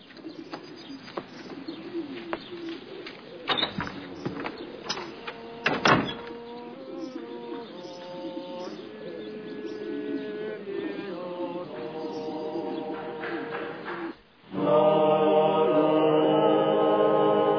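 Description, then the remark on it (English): Czech pigeons coo softly in low, repeated murmurs against a busy background, and near the end louder sustained music, the Czech national anthem, swells in and takes over. “This is the Czech national anthem here, and these are the pigeons.”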